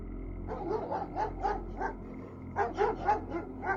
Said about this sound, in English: My family had two border collies, and as we were changing positions, the dogs wandered in and started barking at us.